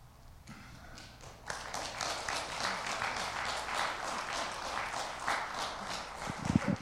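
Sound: audience applause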